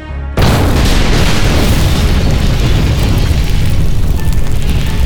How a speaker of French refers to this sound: Le TGV Paris-Marseille est coupé en deux par l'explosion d'une bombe placée dans une mallette.